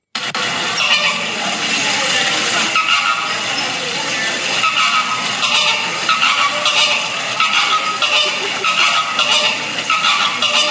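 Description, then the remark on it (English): Two geese honk back and forth in loud, harsh, overlapping calls, nearly continuous, the squawks trading off rapidly for the whole stretch with no talking. “That is two geese arguing back and forth, one saying, yes, I am.”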